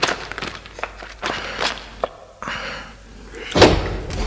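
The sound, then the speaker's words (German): An unlocked cellar door beside a heap of coal is handled and opened, with a series of scrapes and clunks building to one louder knock near the end; no one speaks. “Wir haben Glück, sie ist offen.”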